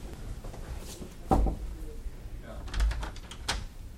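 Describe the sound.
A few sharp, hollow knocks on the door of hospital room 15, spaced out, with quiet room noise and faint voices in the background.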